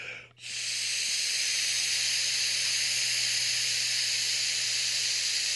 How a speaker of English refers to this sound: There we go. You just heard the beep, which indicates that I should remove my lips from the long, hard thing and look down at the digital readout.